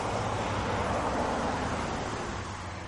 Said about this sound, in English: I'm standing on Old Highway 1, historically the main road along America's eastern seaboard. Today, as you can hear, it's a major highway, busy with passing traffic.